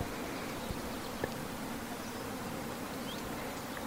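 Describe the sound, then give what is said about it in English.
A soft, steady buzz of bees gathering in nature drones continuously against a hissy outdoor background, fairly faint, with no one speaking. “So what they're gathering now, the bees, we can see them.”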